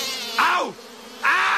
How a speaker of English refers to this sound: Hey, get off my sugar! Bad bees! Bad!